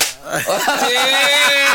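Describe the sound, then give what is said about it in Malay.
A person claps loudly so others will hear: a sharp hand clap cracks out at the start, followed by a few softer smacking sounds, while a steady high-pitched tone and faint voices hum underneath. “Tengok dia tepuk biar orang dengar.”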